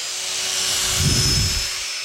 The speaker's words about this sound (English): Can we, before you talk about the chair, can we just talk about your drill for a second? Yeah, sure. Can we hear it one more time, please? Sure. Yeah.